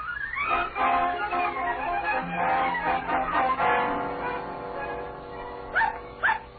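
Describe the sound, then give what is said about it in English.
A dog barks and yelps in a continuous, excited stream of vocalizing, ending with two short, sharp barks. No one speaks. “On a honeymoon with my dog.”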